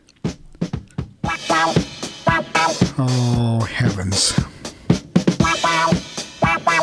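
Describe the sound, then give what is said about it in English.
A bouncy 1976 disco track plays loud, with a squawky, quacking duck-like voice over the beat and a brief spoken exclamation near the start. “This, however, is Exhibit B for those of you who are disco lovers.”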